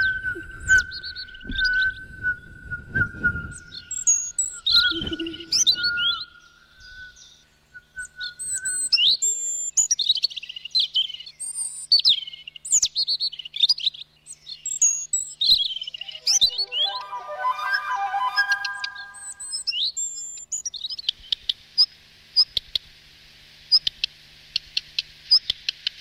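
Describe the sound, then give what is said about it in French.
A child imitates a European robin's song with a long run of high, twittering whistles, quick chirps and warbling trills, ending in a thin hissing whistle, fairly loud with no talking. “j'imite le rouge-gorge.”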